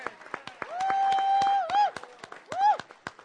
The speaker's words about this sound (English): Everyone, let's give a huge applause for all of our volunteers.